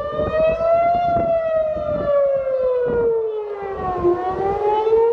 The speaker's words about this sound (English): And then 5-10 minutes later, we heard an actual siren go off outside the house, and we kicked into gear as we have in previous rounds of conflict.